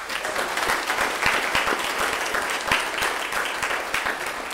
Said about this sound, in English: would you please just give a round of applause?